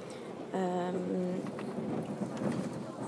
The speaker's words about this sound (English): And this is the train you can hear.